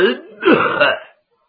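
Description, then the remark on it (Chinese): A man's voice, a storyteller, acts out the cough of the old swordsman character Tao Fu'an, who holds his white beard: a short throaty rumble, then a louder drawn-out rasping hack lasting about a second before cutting to silence. “陶福安那人稳当，手托着白胡，先咳嗽了一声。”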